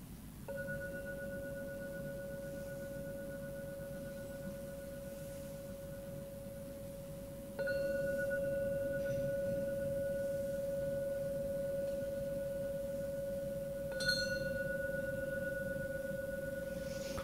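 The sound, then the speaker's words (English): A gong is struck three times, about seven seconds apart, to end a meditation session. Each strike blooms into a steady, pure humming tone that rings on without fading until the next hit. “So I'm now going to ring the gong 3 times to end this meditation session.”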